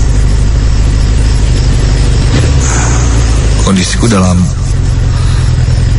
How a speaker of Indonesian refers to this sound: Hingga tak lama, samar dari jauh terdengar suara kendaraan yang cukup berisik.